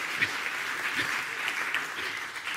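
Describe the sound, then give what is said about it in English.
An audience gives themselves a clap, clapping steadily for a couple of seconds, a dense wash of many overlapping hand claps at moderate loudness, with a few faint voices mixed underneath. “Give yourselves a clap, guys.”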